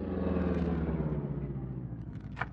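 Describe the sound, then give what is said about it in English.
A car driven by Cato rumbles low and steady, then eases off as it slows, ending with a short high squeal like brakes as it pulls to a stop at the side of the road. No one speaks. “Stop the car, Cato.”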